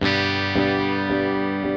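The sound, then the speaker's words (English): An electric guitar sustains a rich chord while a delay effect repeats it in steady echoes about every half second, each repeat blooming and fading, with no voices present. “Here's another effect, delay, another popular one.”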